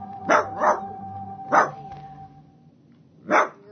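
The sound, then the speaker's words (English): A mad dog barks four times, a quick pair and then two single barks spaced apart, loud, over a faint steady hum with no one talking. “We got a mad dog.”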